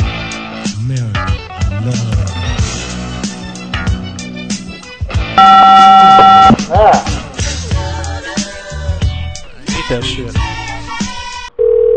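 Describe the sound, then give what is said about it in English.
Voices talk over a phone line while a call is being placed, broken midway by a loud, steady electronic telephone tone lasting about a second; a brief low hum-like tone sounds again right at the end. “I'm waiting for the phone.”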